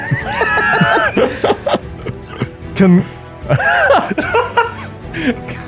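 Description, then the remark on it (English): A gorilla gives a series of high-pitched, arching shrieks in loud bursts, separated by short grunts and breathy clicks, with two longer shrill calls standing out. “One of the gorillas emits a Biggs pitched shriek, that's communicating with the others.”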